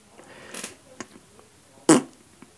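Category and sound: human body sound, fart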